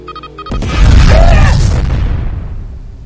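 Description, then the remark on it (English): A sudden, heavy land mine explosion in a video game bursts in after a brief moment of game-like tones, a deep rumbling boom that swells for about a second and then slowly rolls away into a fading roar. “The mine comes. Feet. The room off and it will destroy the equipment.”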